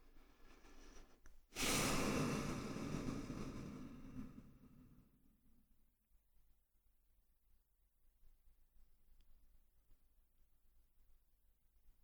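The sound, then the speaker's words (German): A single deep breath taken during a relaxation exercise with eyes closed: a soft intake followed by a long, loud airy exhale that fades over a few seconds, then near silence. “Dann atmen wir wieder einige Male tief ein und aus, um uns mit unserem Körper zu verbinden.”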